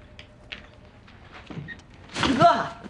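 A person drops heavily into a fur-covered beanbag chair: a soft thud followed by a brief, loud crunching rustle of shifting filling, after a quiet stretch with faint murmuring.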